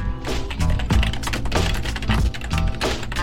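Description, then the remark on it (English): Laptop keyboard typing: a quick, uneven run of key clicks and taps continuing for a few seconds over a steady tonal background, with no one speaking. “I'm getting better at typing on this keyboard.”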